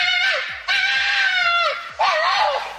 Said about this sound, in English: Could you tell the difference between a Harvey fan screaming and an animal screaming? I think I could. Okay. Okay, go on. Because these are the foxes outside my house at the moment.